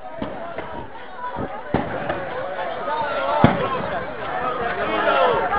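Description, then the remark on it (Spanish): Several sharp gunshots crack at irregular intervals in the background as police advance and tear gas returns, half-buried under a busy, noisy scene with people talking and moving about. “¿Ustedes escuchan los tiros de fondo?”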